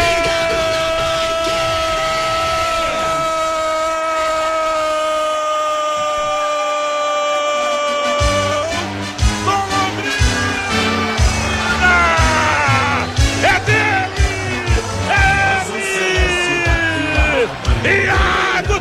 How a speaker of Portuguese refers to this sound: A bola vai entrando e é gol! A bola dormindo no barbante, o povo vibra.